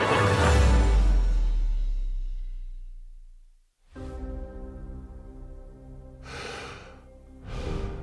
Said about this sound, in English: Breathing out, breathing in, more precious than it's ever been. We can't take it for granted.